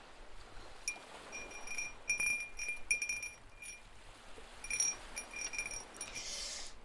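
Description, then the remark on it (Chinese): A wind chime cup clinks and tinkles in scattered bursts, bright glassy high-pitched tones ringing briefly over a soft steady hiss, with no one speaking. “来听一下《风铃杯》，之前好像做过一次。”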